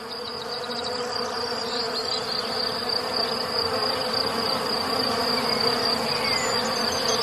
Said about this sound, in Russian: И через несколько минут услышали петух с Ишаком сильный гул. Смотрят, а это пчелиный рой за ними летит.